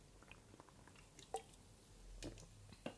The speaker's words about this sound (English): Okay, just let's wait. Let's just pause a minute because I need to drink because my throat is hurting.